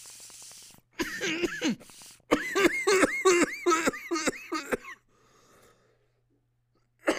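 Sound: coughing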